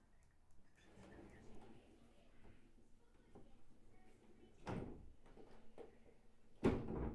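door opening or closing

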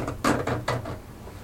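scratching on a door

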